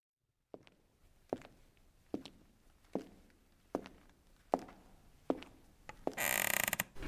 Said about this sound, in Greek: Το σπίτι έχει πλέον ησυχία. Μόνο το σκαμπού του πιάνου που τρίζει λίγο ακούγεται